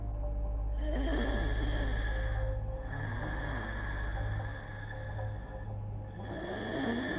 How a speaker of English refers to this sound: I took small steps until I was right next to the door and pressed my ear against it, straining to hear anything. I could hear faint breathing. Something was there, still waiting, always waiting until I opened the door.